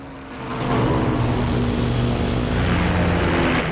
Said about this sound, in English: Taylor flies his plane to the front of the formation.